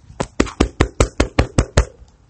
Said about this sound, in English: Congratulations to yourself. Give yourself a round of applause. Here, I'll do it for you.